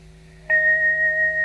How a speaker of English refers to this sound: Very cheerful bell ringing. This little bell is so cheerful.